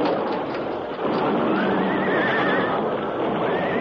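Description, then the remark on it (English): Horses pulling a stagecoach along a narrow trail by a cliff edge in a Lone Ranger drama whinny loudly and shrilly, one long wavering neigh rising above a dense, rumbling clatter of hooves and noise that fills the whole moment. No one speaks. “A sudden flash of fire and an ear-splitting explosion came without warning just ahead of the horses.”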